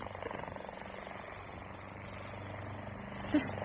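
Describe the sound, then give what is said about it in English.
A helicopter approaching overhead drones, its rotor giving a steady, rapid pulsing thump over a low engine hum that holds at a fairly constant, moderate level throughout. “It's a plane. But it can't be. Wait. Hmm? There it is. Look, there. A helicopter.”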